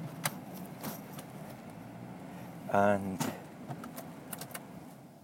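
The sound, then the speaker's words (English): A car is eased into a parking spot, its engine rumbling low and steady, with scattered clicks, a brief tonal whine midway, and a voice speaking a word. “I have to keep talking until I spin this car right in the position.”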